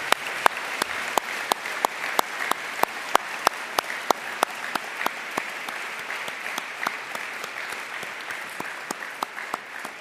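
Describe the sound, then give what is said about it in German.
Sustained audience applause at the Liederhalle for the stewards, security staff and venue staff, a dense wash of many hands clapping with sharp individual claps standing out in an irregular rhythm throughout, steady and moderately loud with no voices. “Und ich glaube, das ist ein großen Beifall wert.”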